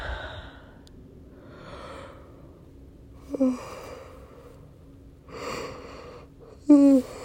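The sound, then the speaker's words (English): Drawn-out breathy yawns, one after another, two of them ending in a short voiced squeak or groan, with quiet breathing in between and no talking. “Yeah, see, I just want to yawn and yawn and yawn, which means that what I really want is just sleep, sleep, sleep.”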